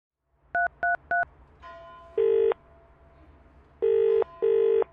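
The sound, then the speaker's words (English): Three quick, identical telephone keypad beeps dial 999 in rapid succession, followed by a pause and then bursts of a ringing tone on the line, clear with no talking. “Telephone 999.”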